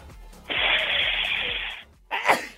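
A loud sneeze: a long, breathy, hissing burst, then a brief pause and a second sharper burst. No one speaks.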